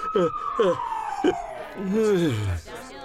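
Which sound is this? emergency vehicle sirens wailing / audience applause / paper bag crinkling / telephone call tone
emergency vehicle sirens wailing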